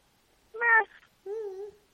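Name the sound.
cat meowing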